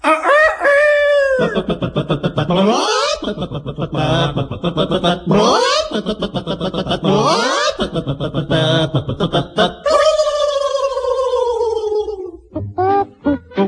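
Loud chicken clucks and drawn-out squawking calls repeat in quick bursts, rising and falling in pitch, ending in a long crow-like cry and a few short clucks.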